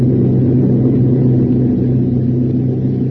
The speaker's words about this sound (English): Now the enormous plane is taken off, and the veterans who have shared so many dangers look at each other with quizzical annoyance.